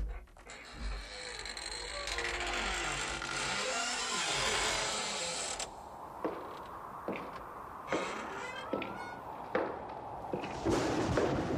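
Orchestral film score: a steady rushing hiss for several seconds gives way to a series of sharp, repeated string stabs, shrill and piercing, arriving in an uneven jabbing rhythm.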